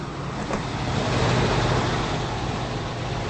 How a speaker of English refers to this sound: Now, a green Jeep Grand Cherokee pulls into a driveway.